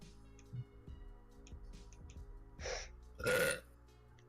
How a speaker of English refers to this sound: Ah, oh, sorry. Don't apologize for that. I have to. Very impolite to burp in front of the audience.